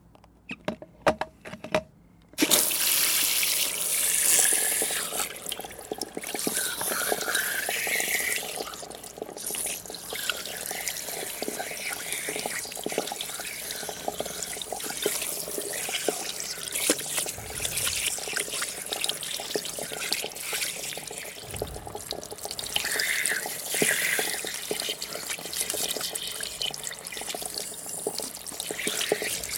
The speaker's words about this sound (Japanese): はい、シャンプー終わり。シャワーで流していくわよ。タオル乗せてお湯かけるわね。